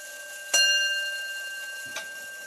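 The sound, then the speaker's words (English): An antique clock in a house chimes, striking once with a bright, ringing tone that slowly fades, followed by a softer second knock. There is no talking, only a quiet hum underneath. “Every hour, my house echoes to the chimes of antique clocks, big and small.”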